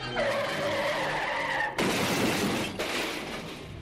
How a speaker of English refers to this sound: Flinging their ropes so that they catch onto a ledge two stories up on the building behind them, the two clamber up out of harm's way as the killer car, driving right up on the sidewalk, goes out of control.